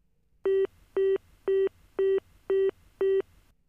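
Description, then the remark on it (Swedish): A telephone busy signal: six identical short tones pulse at an even, steady rhythm, each followed by a brief silence, clear with no one speaking. “Ah, det är upptaget.”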